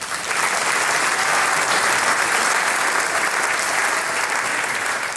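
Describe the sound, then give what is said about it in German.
Sustained audience applause for the day's harmonica contestant at the Styrian singers and musicians meeting, a dense, steady wash of many hands clapping at a constant loud level for the whole stretch, with no voices standing out. “Applaus für den heutigen Harmonikakandidaten”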